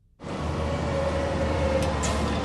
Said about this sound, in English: So who hasn't run from the stinky wake of a noisy bus or semi? Turns out there's a reason to hold your nose.